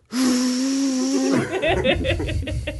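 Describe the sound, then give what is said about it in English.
A voice mimics a vacuum cleaner with a steady, buzzing hum and airy hiss held for just over a second, then dissolves into breathy laughter. “Oh, make your vacuum cleaner noise.”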